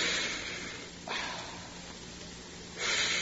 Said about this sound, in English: Now, I want you to breathe through your mouth.